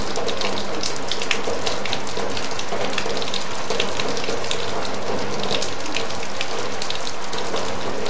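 Heavy rain drums steadily on a sheet-metal roof, a dense, hissing roar of countless overlapping taps and sharp pings that stays loud and unbroken throughout, with no voices.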